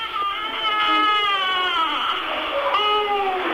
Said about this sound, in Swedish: Munnen i hans skrynkliga och skrumpna lilla ansikte öppnas bara för ett övergivet skrik.